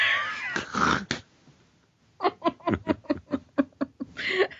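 Cats meow and caterwaul up close, starting with a loud, wavering yowl, then a rapid run of short, choppy cries and chattering sounds before another drawn-out wail at the end.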